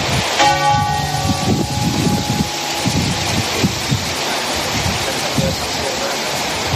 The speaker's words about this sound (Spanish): Y déjame que te confiese una cosa así mientras suenan las campanas de Windsor de fondo para empezar esta mañana de sábado.